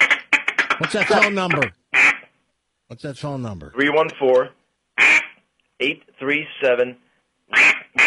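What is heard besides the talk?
duck call being blown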